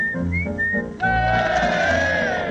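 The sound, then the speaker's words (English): A person whistles an imitation of blackbird song: a few short, high, sliding phrases, then a louder, sustained warbling run with wavering pitch, heard alone without speech. “Ladies and gentlemen, a few imitations of well-known British birds. My first will be the blackbird.”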